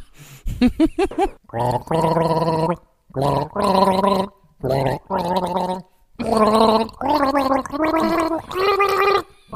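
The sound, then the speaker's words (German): Someone gargles the Tatort theme tune with a mouthful of wine, the bubbling throat sound rising and falling in pitch across several sustained phrases with short pauses between, loud. “Tatort. Mhm. Schlucken. Sehr gut.”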